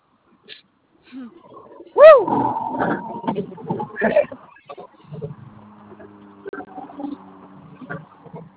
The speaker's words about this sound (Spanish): ¡No muerde, perro!